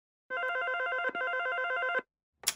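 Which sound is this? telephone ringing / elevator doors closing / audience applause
telephone ringing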